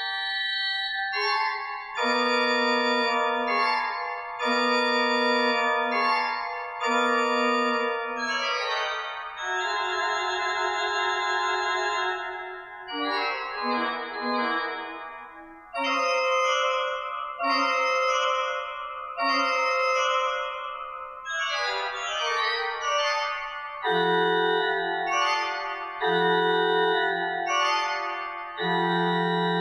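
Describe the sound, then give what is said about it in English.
Organ music imitating the song of a musician thrush, Messiaen's Verset (1960) played by organist John Gillick at a church: bright, clustered chords in short repeated bursts, then longer sustained sonorities and quick flurries of high notes, played loudly throughout with no voices. “Gillick began by performing a piece that mimics birdsong.”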